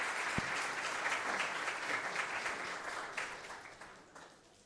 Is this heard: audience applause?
yes